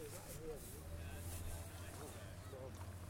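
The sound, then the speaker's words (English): A motorboat with a kid aboard drones low and steady across the water of a small bay by a beach, continuous throughout, mixed with wind and lapping water noise, with faint voices murmuring. “Oh yeah, there's a kid on a motorboat out there.”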